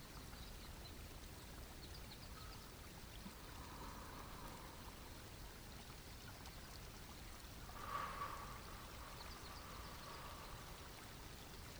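Water burbles steadily in a small spring-fed stream, a soft continuous trickle with a brief brighter gurgle partway through, heard alone.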